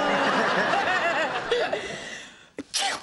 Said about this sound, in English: Gesundheit. Or as they say in Switzerland, Gesundheit. Getting a cold? No, it's probably just allergies.